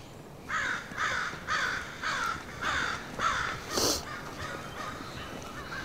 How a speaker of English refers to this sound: You really get the sense that the crows are telling you you're trespassing. They're not being impolite about it, but they just want you to know.